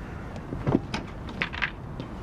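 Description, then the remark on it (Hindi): A door is opened with a dull low thump, followed by a couple of soft latch-like clicks and rattles, fairly quiet with no one speaking. “जनाब हमने पहले से वक्त लिया हुआ है, दरवाजा खोलिए।”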